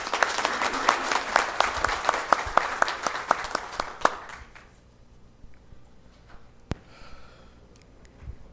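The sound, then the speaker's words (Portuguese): A crowd at the swearing-in ceremony of a mayor and vice-mayor applauds with dense, steady clapping for about four seconds before it quickly fades out, leaving quiet with a single sharp knock and faint murmuring. “Uma salva de palmas.”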